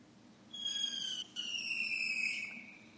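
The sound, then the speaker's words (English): Shrill whistling fireworks lit by someone screech outside, a high sustained whine that breaks briefly and then continues for a couple of seconds before fading, with no talking. “No, somebody's lighting up fireworks outside for no reason whatsoever.”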